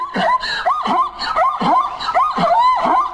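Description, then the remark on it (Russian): A zebra mother calls her foal in a steady run of about five loud, harsh, yelping barks, each rising and falling in pitch, repeated roughly every half second with no talking. “Нет, она зовет другого, она зебренка своего зовет.”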